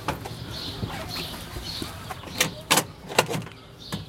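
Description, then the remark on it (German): A 50-cent coin drops into a chicken feed dispenser, making a few sharp metallic clicks and clunks, while birds chirp and hens cluck faintly in the background. “Ah, jetzt ist das Geld drin.”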